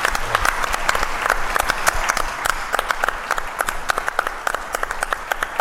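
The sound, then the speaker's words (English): An audience at Oshkosh breaks into a sustained round of applause for a Spitfire pilot, dense overlapping claps at a steady, fairly loud level with no one speaking. “Maybe we can do a round of applause for him so he can go back and watch that.”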